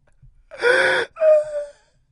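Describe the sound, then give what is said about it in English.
Two loud, breathy gasps in quick succession, the second catching into a wavering, tearful sob, heard alone without any talking. “She gasped through sobs.”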